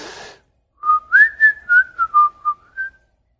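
A person whistles a quick, speech-like phrase of about eight gliding notes, rising and falling like spoken intonation, clear, after a brief breathy rustle at the start; the whistle is used to communicate with another person and means "did you enjoy today's lesson?"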